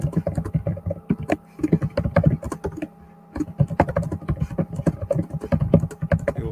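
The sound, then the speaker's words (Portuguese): Rapid, irregular clicking of keys on a mechanical computer keyboard, fairly loud, with a brief pause midway before the typing resumes at the same busy pace. “É porque tava um barulho de digitação aí, tava um.”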